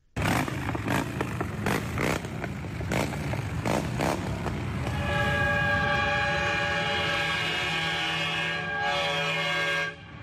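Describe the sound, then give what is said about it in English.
Rumbling motorcycle engines and revving bursts give way to a very loud, sustained horn blast from one of the trucks in a motorcycle procession, a deep, train-like multi-tone chord that holds for about five seconds before cutting off. “Well, that was me obviously reacting to a really loud horn that came not from a motorcycle, but from one of the trucks in the procession.”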